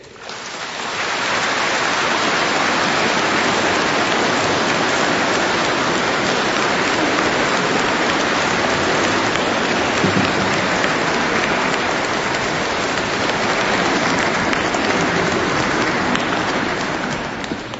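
A large audience at a parish event applauds steadily for nearly eighteen seconds in thanks for a woman's beautiful singing, a dense, even crackle of many hands clapping that swells in quickly and holds at a loud, constant level with no voices over it.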